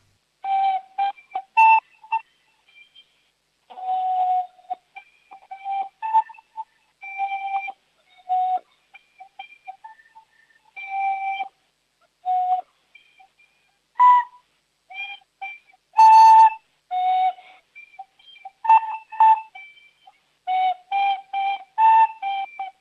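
A 7-year-old child from Schwarzach in Vorarlberg, who has played flute for 3 years, plays the tune Hoppe Hoppe Reiter on a flute, bright breathy notes in short phrases with held tones and frequent pauses, the rhythm a little uneven. No one talks over it.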